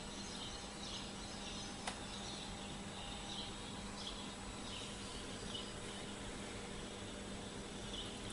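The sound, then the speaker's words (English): Faint bird song: a few scattered high chirps and short phrases drifting in and out over a steady background hiss, with no one speaking. “Today's song, a relief. Bird tunes.”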